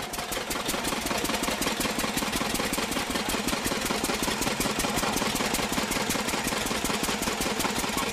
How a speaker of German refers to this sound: Hier werden die Körner zu Sand zerrieben. Die benzinbetriebene Mahlmaschine ist Sache der Jungs.